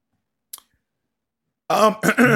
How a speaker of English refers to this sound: Excuse me. I had to clear my throat like a certain someone we know out there on the internet. I had to.